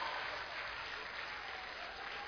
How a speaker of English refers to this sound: Can we stand up to clap for him?